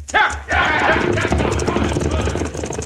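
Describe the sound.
Several outlaws mount their horses and gallop off on Rocking Chair Mountain in a rapid, drumming rush of hoofbeats, loud, with a low rumble beneath and voices shouting over the commotion.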